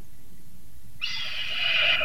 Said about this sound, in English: Yeah. That sounds like a velociraptor more than it does a red-tailed hawk.